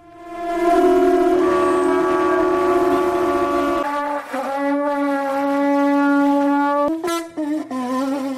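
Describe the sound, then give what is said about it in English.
A conch shell is blown like a horn, giving a loud, sustained, buzzy tone that dips slightly in pitch midway, then wavers and breaks into short blasts near the end. “In the US state of Florida, Key West's annual conch shell blowing contest, or conch honk, as the locals call it, celebrates this rather different kind of musical heritage.”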